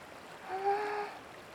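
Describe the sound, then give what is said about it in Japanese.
A steady, soft rush of a river flowing right beside an open-air hot spring bath with cloudy water, screened by green trees, fills the short clip, with a faint brief whistling tone rising over it midway; no one speaks. “川がすぐそば流れてて、目隠しの木々の緑も鮮やかで、あったまるだけじゃなく、くつろぐわ。”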